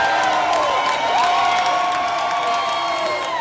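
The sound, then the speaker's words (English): A large crowd at a meeting with Representative Scott chants together after he says he will stand firm: a loud, steady wall of many raised voices with sustained tones rising and falling, continuing for the whole stretch. “And when Scott said he'd stand firm, much of the crowd broke into a chant.”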